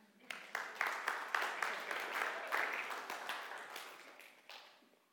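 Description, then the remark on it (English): An audience breaks into applause after a Bible passage is read, many hands clapping in a dense, steady patter that holds for several seconds before gradually tapering off. “You could applaud that.”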